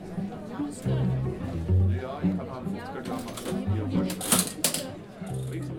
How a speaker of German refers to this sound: Ui, schau mal. Da ist ja eine richtige alte Kasse. Wo sind wir denn jetzt eigentlich? Im Theater Kuckucksheim in Heppstedt. Und an der alten Registrierkasse steht der Chef persönlich und verkauft die Eintrittskarten.